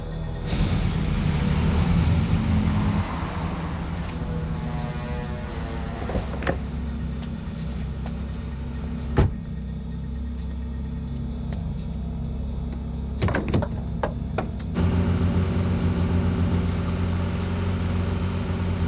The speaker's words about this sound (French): Arrêtez-vous et laissez tourner le moteur.